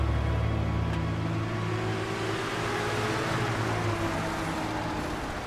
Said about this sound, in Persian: گاراژ میرعزی. رضا با ماشین میاد تو گاراژ.